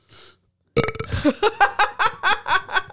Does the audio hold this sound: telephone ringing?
no